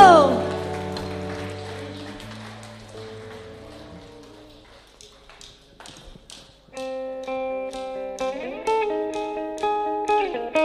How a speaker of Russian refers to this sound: Давайте большие аплодисменты дадим нашему Богу.